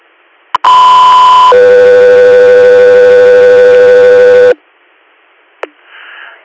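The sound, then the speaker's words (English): Loud radio dispatch alert tones: a short higher steady tone shifts straight into a longer, lower sustained tone lasting about three seconds, with brief clicks and radio hiss before and after. “stand by for tones.”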